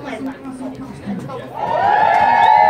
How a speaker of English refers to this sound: You can hear the cheers. We're going in.